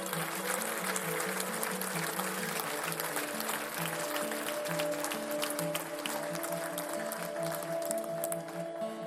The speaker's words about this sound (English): The Lord is in this. So can we give these folks a round of applause one more time?